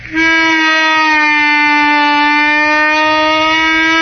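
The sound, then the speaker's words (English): A single loud, sustained reedy instrument note, rich in overtones, held for about four seconds with a gentle bend in pitch and no talking over it. “But you get on this, you can get a bend like this.”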